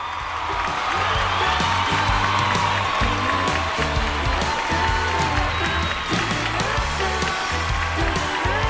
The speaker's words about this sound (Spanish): ¡Un aplauso!